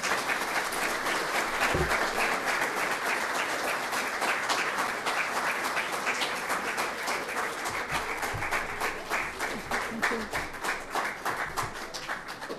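Sustained audience applause after a talk, a dense steady wash of many hands clapping at a fairly even loudness, fading only slightly toward the end, with no voices over it.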